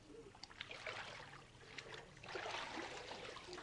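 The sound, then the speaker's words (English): Water sloshes and splashes as a person is immersed in warm water for a baptism and lifted back out: a few irregular surges building to a fuller swell of churning water near the end, with no talking. “And hold your nose where you don't get water up your nose.”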